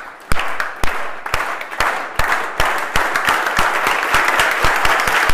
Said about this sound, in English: So here's my invitation. Let's start clapping slowly, and from slow we go faster.